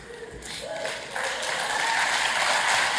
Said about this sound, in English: Well, I don't need applause because they could have chosen any of our churches, right?